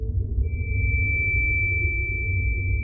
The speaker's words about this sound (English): That sweet, sweet sound is 2,327 hertz. Coming from the Juno spacecraft, it will hopefully arrive across a nearly 2 billion mile chasm of space to tell a team at NASA's Jet Propulsion Lab that humanity's furthest traveling solar-powered spacecraft